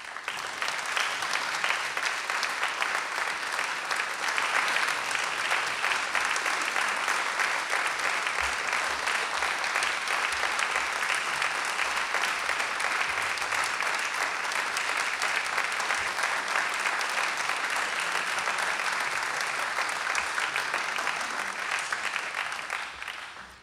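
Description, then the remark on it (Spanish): Sustained audience applause in a radio station's auditorium welcoming the Trío Ginastera for a live recital, a dense steady patter of many hands clapping at a constant level for over twenty seconds, with no voices over it, tapering only at the very end. “Y hoy los tenemos en vivo aquí en el auditorio de la radio, así que si les parece ya los recibimos con un aplauso.”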